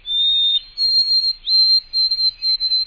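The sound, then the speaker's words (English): A white-throated sparrow in North America sings a series of long, clear, high whistled notes, steady in pitch and held for about half a second each, loud with no other sounds. “The long, clear whistles of the white-throated sparrow.”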